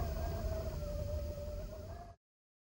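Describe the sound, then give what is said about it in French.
Wind howls in a steady, whistling moan over a deep, roaring rumble, holding fairly loud for about two seconds before cutting off abruptly. No one speaks. “Il y a du vent !”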